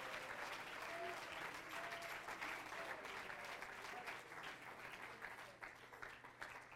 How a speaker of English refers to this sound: Praise God. Give him a little praise. Clap your hands. Lift up a voice. Praise God.